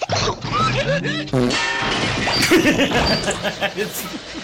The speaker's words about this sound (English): we have the official sound of the Truth Social servers. There they go. Oh, it's crashing. Another crash.